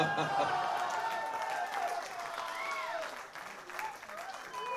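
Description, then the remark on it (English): An audience applauds steadily for several seconds, a dense wash of clapping from a crowd, with scattered whoops and voices rising over it before it thins slightly near the end. “And what would help is a little liquid applause.”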